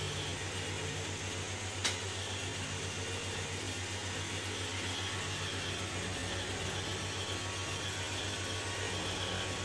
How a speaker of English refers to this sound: Are you finished cleaning? I really don't know if you're finished cleaning because the vacuum is still running.